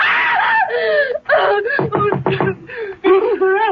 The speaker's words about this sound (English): Oh. What on earth is wrong? Why were you screaming?